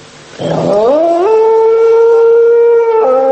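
wild dog howling

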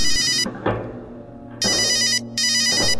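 telephone ringing

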